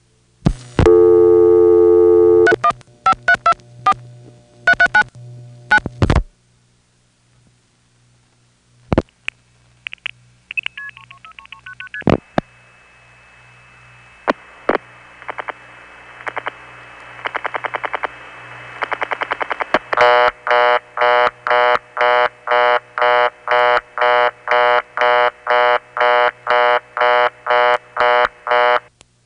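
A call via Ogdensburg to Hammond, an independent phone company with a likely step-by-step or Stromberg XY exchange: a string of telephone dialing tones and clicks, then a hissy line with faint switching noises, ending in a loud, steady pulsing busy-style tone repeated rapidly, with no voices.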